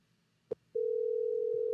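An outgoing phone call to the speaker's brother: a short electronic beep, then a steady, unbroken mid-pitched telephone tone that holds loudly until the end. No one speaks.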